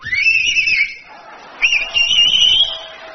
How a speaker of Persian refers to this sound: شما همینجوری هم میتونی سوت بزنی.